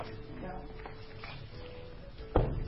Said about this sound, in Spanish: Bueno, te voy a cerrar la puerta. Cierro la puerta.